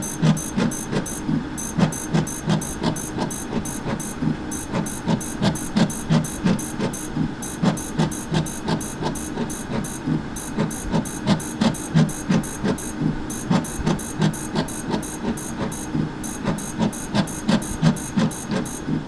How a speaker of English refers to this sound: That was the sound of a fluorescent plate reader. We use it to analyze samples in our lab.